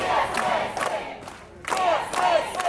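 A loud crowd shouts together at a protest picket by the court doors, raised voices swelling in two surges with a short lull between them, no single speaker standing out.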